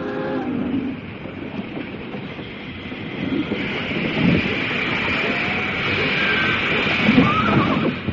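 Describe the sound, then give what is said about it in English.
Railroad cars rumble and clank as they are slowly backed up, a steady, heavy rolling noise with faint metallic squeals near the end. “Watch out, they're backing her up.”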